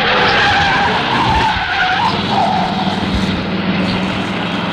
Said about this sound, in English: immeasurably enhancing the sleekness of that cut-down hot rod swirling past us en route to a ball, 1956 teenage style.